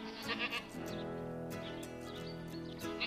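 A goat bleats loudly in one long, wavering, nasal cry that holds for about three seconds, with no voices around it.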